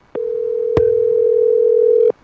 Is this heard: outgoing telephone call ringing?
yes